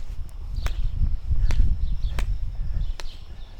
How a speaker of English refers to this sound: I'm walking down the road and I'm trying to avoid a lot of cow poop.